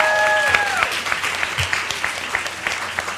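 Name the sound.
audience applause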